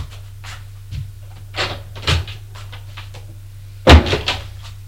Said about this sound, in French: Fermer la porte et descendre les escaliers.